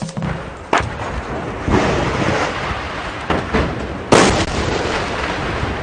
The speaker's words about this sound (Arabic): أصوات القذائف وسحب الدخان شاهد على حماوة المعركة بمدينة القصير في محافظة حمص.